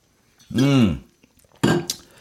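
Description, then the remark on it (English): A quick sip of ice-cold water from a glass: a short voiced gulp with a rising and falling tone, then a brief pause and a burst of breathy, clinking sound as the glass is handled. “Let me have a quick sip of water because I'm doing this in one take, remember?”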